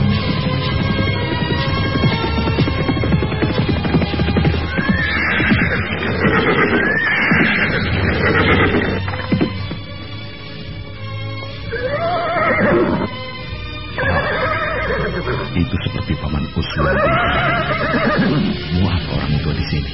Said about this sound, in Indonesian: Tapi tiba-tiba, Mus'ab bin Umair menarik tali kekang kudanya. Kuda itu berhenti dengan mendadak.